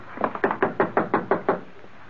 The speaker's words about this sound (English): Then I'll do the knocking.